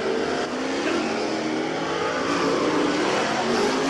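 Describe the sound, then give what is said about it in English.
Loud race cars roar and rev continuously on a dirt track, a dense wall of mechanical noise with rising and falling pitch as the drivers run several hot laps to check the gears and warm up the cars, no voices present. “The drivers do several hot laps around the track to check the gears and get the cars warmed up.”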